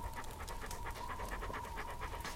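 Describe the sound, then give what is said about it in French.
A female dog pants rapidly and steadily, quick rhythmic breaths repeating throughout with no one speaking. “Viens là, Junon. C'est ça. Là. Tu me reconnais, hein ? La brave chienne.”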